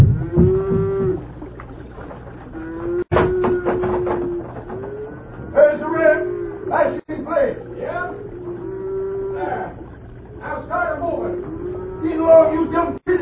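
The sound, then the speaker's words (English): A herd of cattle, driven onto a bridge and held there, moos repeatedly, several loud, drawn-out lows overlapping one another, with a few sharp knocks breaking in between the calls. “is rustling his own cattle”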